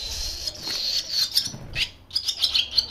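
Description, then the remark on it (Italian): A male barn swallow perched on a wire sings a rapid, chattering twitter of high warbling notes, fairly clear, running almost continuously with one brief pause before resuming. “Esatto, questo è il canto di maschio di rondine.”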